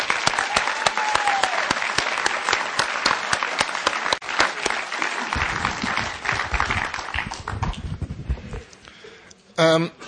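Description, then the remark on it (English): A convention audience applauds the convention committee steadily, a dense wash of many hands clapping at once that runs loud for several seconds before thinning out, with a short burst of other noise right at the end. “And I'd like you to join me in applauding all of the convention committee for doing a splendid job this weekend.”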